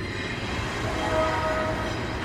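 A freight train rolls past an office in the library of Eastern Washington University with a steady, heavy rumble and clatter, and a faint high tone briefly rises midway, likely wheel squeal or a whistle. No one speaks.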